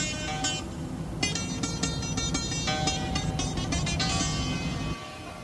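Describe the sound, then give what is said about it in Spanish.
Ian's car engine rumbles steadily as it rolls along and parks in front of Tula's house, with brighter tonal sounds layered on top, then the engine noise drops off abruptly near the end. “El coche de Ian aparca frente a la casa de Tula.”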